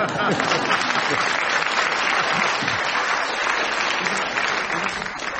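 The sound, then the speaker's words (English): A sustained round of applause, dense and steady clapping from a crowd that holds at a loud, even level for several seconds before easing slightly, with faint voices mixed in. “In any other show, it would get a round of applause.”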